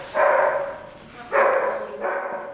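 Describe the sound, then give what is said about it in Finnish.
A search dog barks three times to signal a find, each bark a fairly long, full-throated woof, loud, with short pauses between them and no talking. “Pöhnä vissiin teki taas löydä.”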